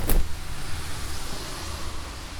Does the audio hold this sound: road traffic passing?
yes